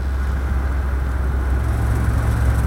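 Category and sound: vehicle, car driving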